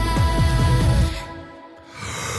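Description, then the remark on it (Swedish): A person lets out a long, voiced yawn on a Monday morning, a drawn-out vocal groan with wavering pitch that trails off into a breathy exhale. “Förlåt, det var, jag gäspade”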